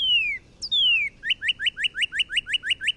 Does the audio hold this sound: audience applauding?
no